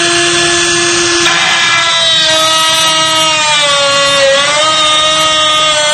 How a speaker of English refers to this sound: This is a very special reaming tool, and it just doesn't hardly touch the surface of the lock. There are special anti-drill pins, and as you can see, it's not getting anywhere. Again, this is an EVA 3KS, very popular in Europe.